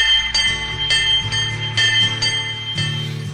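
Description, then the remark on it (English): A bell clangs repeatedly in a steady, rapid rhythm, loud, its bright metallic tones ringing over one another with no voices. “Are we at war yet? Is that what that bell means?”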